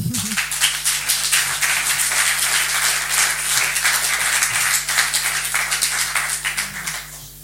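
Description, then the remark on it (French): Sustained audience applause, a dense wash of many hands clapping at a steady, fairly loud level for several seconds before starting to thin out at the end. “Merci de l'applaudir.”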